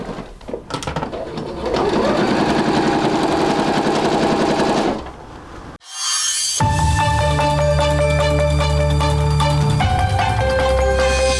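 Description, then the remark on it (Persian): Sewing machines in a garment workshop making medical gowns run in loud, steady rapid stitching bursts, one whirring run, a brief pause, then another busier stretch with a higher mechanical hum layered over the chatter. “کارگاه‌های دوخت بیشتری را به کار بگیرد تا سرعت تولید این روپوش‌های پزشکی را بالا ببرد.”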